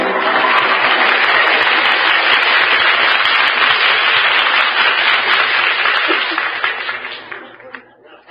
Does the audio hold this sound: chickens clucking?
no